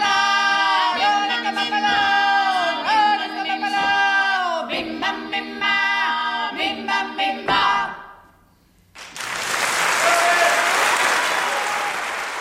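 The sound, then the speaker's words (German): Several voices of a vocal quartet sing in Italian in close, sustained harmony, the chord ending and fading to a brief hush before a loud, steady wave of audience applause rises and continues to the end. “Ja, hier gehen wir mal raus aus dem Beifall, wo es richtig gut war, fand ich.”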